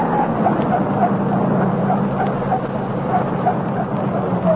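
A car engine rumbles steadily throughout, a continuous low motor drone at an even, moderate level with no clear rise or fade, and no voices.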